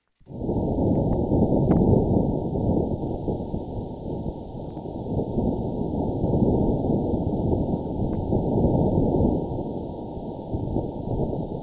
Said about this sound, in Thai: เสียงดังกล่าวเป็นเสียงลมบนดาวอังคารนะครับที่ยานสำรวจ Insight ของ NASA บันทึกไว้และ NASA นำมาเปิดเผยเมื่อวันศุกร์สัปดาห์ที่เพิ่งผ่านมานะครับเสียงที่ยาน Insight บันทึกไว้นี้เป็นเสียงลมซึ่งประมาณว่ามีกำลังความเร็วประมาณ 16-24 กิโลเมตรต่อชั่วโมง